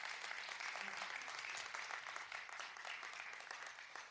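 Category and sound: crowd, audience clapping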